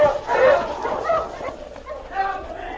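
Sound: sled huskies barking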